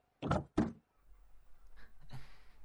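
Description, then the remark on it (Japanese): The door of a chauffeur-driven car unlatches with two solid clunks, followed by a low idling rumble and some faint mechanical shuffling as the door swings open. “ドアを開けてやってくれないか。”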